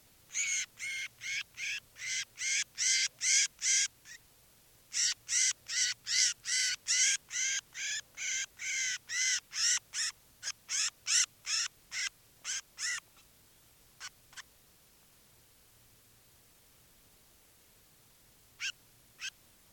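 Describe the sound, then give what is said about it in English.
A wild crossbill, bird number 396, held in the hand, calls in rapid, repeated bursts of sharp, high notes, two long rhythmic runs with a brief pause between, then a few scattered faint calls. No one speaks. “This is bird 396 in the hand.”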